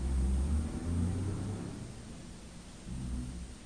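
A car engine rumbles low and steady, its pitch and loudness swelling and easing as it revs while edging past, with a faint hiss of background noise and no talking.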